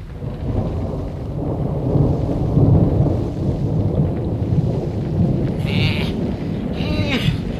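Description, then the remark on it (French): A heavy thunderstorm at night with deep, continuous rolling thunder rumbling loudly throughout, joined near the end by a couple of short animal bleats like sheep or goats. “La nuit vint, et un terrible orage éclata.”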